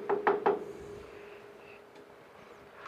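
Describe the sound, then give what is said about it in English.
Three quick, solid knocks on a wooden door, evenly spaced, as a courier knocks at the door of Bolton Manor, followed by quiet room tone with no one speaking. “He knocks at the door and is greeted by a servant.”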